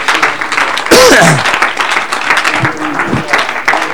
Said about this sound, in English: Oh, clap your hands with me, somebody.